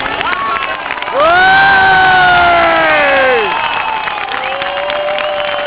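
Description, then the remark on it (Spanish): A crowd claps and cheers loudly and steadily in applause for a mother, with one voice rising above the rest in a long, bright whoop through the middle before the applause carries on. “Un aplauso por la mamá.”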